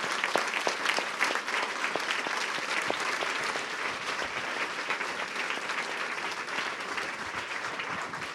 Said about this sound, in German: Ich glaube, auch da ist ein richtiger Applaus nötig.